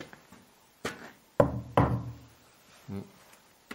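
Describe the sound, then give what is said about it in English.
Several knocks on a very big, old, full wooden wine barrel, two hard, resonant thuds close together with deep booming low end, followed by lighter taps, fairly loud with no talking. “Sounds like it's full.”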